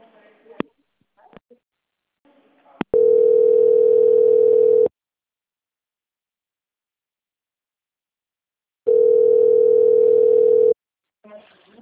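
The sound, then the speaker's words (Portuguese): A telephone dial tone after a wrong-number call: a steady, low-pitched hum sounds twice, each about two seconds long, with a few seconds of silence between. Brief bits of speech come before and after. “Ah, desculpa, então foi engano, tá?”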